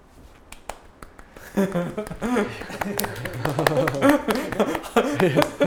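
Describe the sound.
A few sharp, scattered hand claps ring out, first on their own and then mixed in with people talking and chuckling.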